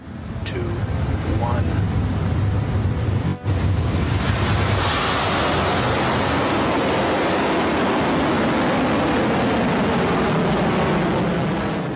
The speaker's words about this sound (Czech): května 8. se na novozélandském kosmodromu Mahia zažehly motory rakety Electron, která vynášela dvě družice Tropix.